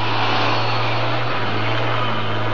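A counterweighted truck carrying a hoist like a gigantic derrick, headlights on, coming this way through the jungle: its engine drones steadily with a deep low hum under a broad rumble, fairly loud, holding an even level throughout with no voices.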